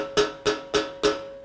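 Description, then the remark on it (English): Four evenly spaced knocks on the metal oven door of a gas stove in a lifeboat, each a sharp rap with a short ringing metallic tail, fairly loud with no voices. “I'll knock on the oven door.”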